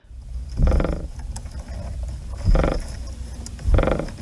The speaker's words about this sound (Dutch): Oh, dit klinkt een beetje als een scheetkussen. Ja, klopt. Dit is de franjeschildpad.